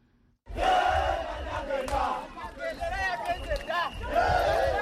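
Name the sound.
celebrating crowd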